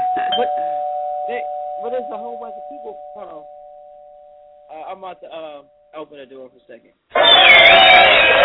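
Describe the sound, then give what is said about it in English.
A doorbell rings late at night with a single sustained electronic tone that slowly fades over several seconds while people talk, then a sudden burst of loud rustling noise ends it. “I'm not ringing our doorbell this late.”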